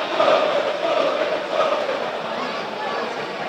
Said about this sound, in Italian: Tanto i cori che forse sentite, noi cantiamo solo per la maglia, sono dei tifosi ovviamente della Fiorentina.